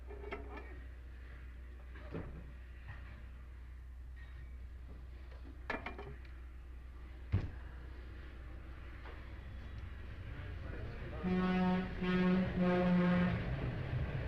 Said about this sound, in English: Getting all these trains on that? Yeah. They sound 10 times as loud, don't they? Do they really? Oh, enormous, yeah.